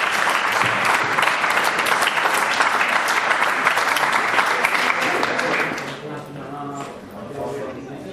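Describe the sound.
Sustained audience applause for a prize winner at an award ceremony at a fair, loud and dense with many hands clapping, continuing steadily for several seconds before fading out as murmuring voices and talk take over.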